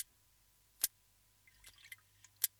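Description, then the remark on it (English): Sharp, isolated clicks from a rig shark, three louder snaps spaced irregularly with a brief flurry of softer, crackly ticks between them, over a faint low hum with no talking. “Then one day, while observing rig sharks, she heard a clicking sound coming from the shark, like a crackle of electricity.”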